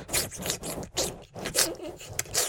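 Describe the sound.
A voice imitates water going down, as a sound effect for water poured over a cloth on a person's head: a steady run of hissy, breathy bursts with a gurgling, uneven rhythm, moderately loud, with no words spoken.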